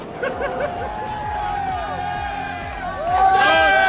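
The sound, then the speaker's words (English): A large stadium crowd roars and cheers throughout, with scattered whoops and shouts over a dense wash of voices, swelling louder near the end. “Don't just scream, buy a hot chocolate!”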